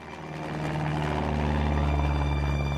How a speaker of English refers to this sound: It's loud. There are propellers spinning. It's windy. Wind rushes into the fuselage and you feel it on your face.